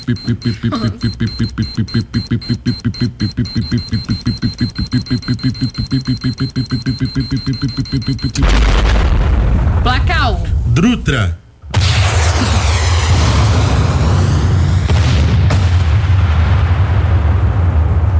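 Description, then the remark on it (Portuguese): A time bomb ticks in a fast, steady rhythm with a faint electronic tone for several seconds, then erupts in a loud explosion followed by a long rumbling, crackling aftermath. “Bomba relógio.”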